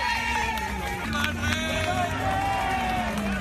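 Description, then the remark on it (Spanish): A crowd cheers and applauds in a steady, continuous wash of noise, with raised voices shouting over scattered clapping, waving Spanish flags to welcome King Juan Carlos as he arrives at the Palacio de la Zarzuela in Spain at 10:05 in the morning. “Pues así, con aplausos, con vítores y también con banderas de España, era recibido cuando a las 10:05 de la mañana llegaba a la Zarzuela.”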